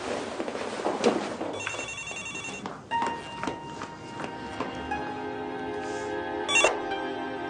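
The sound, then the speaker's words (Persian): A telephone rings with steady electronic tones, starting partway through and continuing loudly, with faint background movement like footsteps and no speech. “مامان تلفن رو میشه جواب بدین؟”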